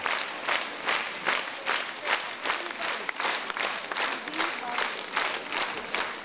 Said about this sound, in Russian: Благодарные аплодисменты от слушателей.